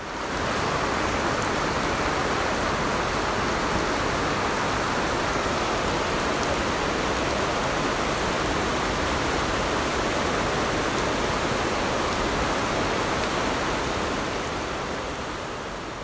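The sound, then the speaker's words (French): Heavy driving rain drums on a roof in a dense, steady roar that stays loud and unbroken throughout, with no voices and no pauses in the downpour. “C'est un très bel effet, c'est un concert de pluie.”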